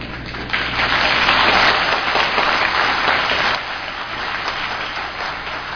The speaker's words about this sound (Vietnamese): Xin cảm ơn quý vị, tràng pháo tay của quý vị đã làm cho tôi được yên tâm.